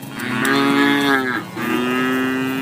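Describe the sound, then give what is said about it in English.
Dairy cattle on a Missouri dairy farm mooing: two long, loud, low-pitched moos, one after another with a brief break between them, and no talking. “Missouri dairy farmers, love issues, etc.”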